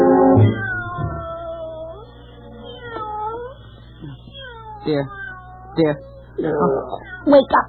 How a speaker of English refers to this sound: Darling, I'm sorry, but I think one of the cats is up on the roof and can't get down. Oh, what? I'm sorry to wake you, but I've listened to that meowing for 15 minutes now.